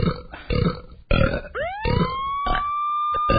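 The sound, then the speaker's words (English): A run of loud belches in a halting, tune-like rhythm, belching the tune of Happy Birthday, with a rising siren-like wail sweeping up midway and holding steady over the last burps. “In honor of this special occasion, I will now perform my special belching version of Happy Birthday.”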